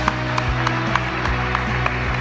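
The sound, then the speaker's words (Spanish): Steady rhythmic clapping from an audience for footballer Manuel Bebelo Reynoso, who won the award for the best goal of the 2018-2019 Superliga season. Sharp claps land at an even beat, about three per second, over a low, constant hum, with no voices. “Fuerte el aplauso de vuelta para Bebelo Reynoso.”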